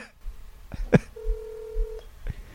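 A telephone sounds a single steady electronic tone lasting under a second before the call is answered, bracketed by sharp handset clicks and knocks, with no voices.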